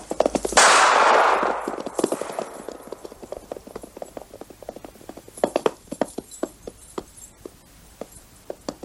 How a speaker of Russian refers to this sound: Выстрел, Лютый повисает на стременах.